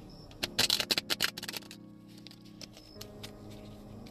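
Tarot cards being shuffled during a tarot reading to draw clarifier cards: a quick burst of crisp, papery flicks and slaps for about a second, then a few softer taps and rustles. No one speaks.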